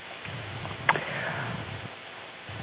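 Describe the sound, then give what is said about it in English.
A single short, muffled cough bursts out briefly against a low, steady background rumble, with no talking around it. “I'm so sorry, my sister, I was coughing.”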